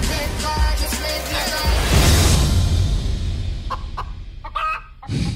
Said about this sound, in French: C'est une autre poule partie là.